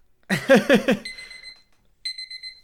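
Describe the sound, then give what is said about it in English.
A timer alarm goes off loudly: a quick run of bright electronic beeps, then a ringing tone that fades and sounds again a moment later. No one speaks. “fuck that timer.”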